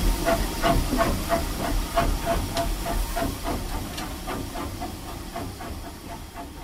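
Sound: steam locomotive hissing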